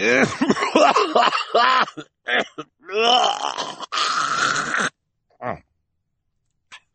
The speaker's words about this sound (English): Mr. Poe paused to cough into his white handkerchief again.